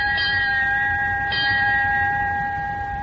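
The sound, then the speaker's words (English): A ship's crow's nest bell clangs three times in slow, spaced strikes, each note ringing on with a bright metallic sustain over low background rumble. No one speaks. “Suddenly, the crow's nest bell clanged 3 times.”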